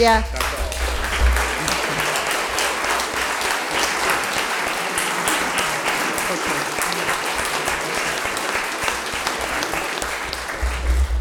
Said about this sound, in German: Sie hören am Beifall, dass es angekommen ist.